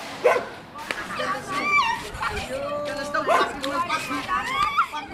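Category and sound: animal, stray dogs barking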